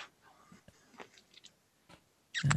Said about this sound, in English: Yeah, but I'm still hearing breathing on, I don't know which one that's coming from. Let me check.